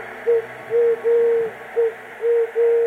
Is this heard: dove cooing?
yes